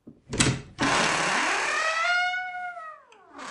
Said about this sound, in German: So, liebe ZuhörerInnen, jetzt haben Sie gerade die Tresortür knarren gehört. Aber ehrlich gesagt war das ein Täuschungsmanöver, denn wir sind überhaupt nicht im Tresor heute